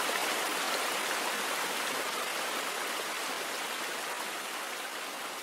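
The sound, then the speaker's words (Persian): Water of the Qolqoli spring, in the highland pastures near Mashhad at the start of the route to the Chaman, Falaske and Shirbad peaks, rushes and bubbles in a steady, even hiss with no breaks, a dense wash of splashing that stays fairly loud throughout and fades only slightly at the end. No voices. “کسانی که قصد صعود به قله های چمن، فلسکه و شیرباد را دارند، در ابتدای مسیر خود با چشمه قلقلی روبرو می شوند.”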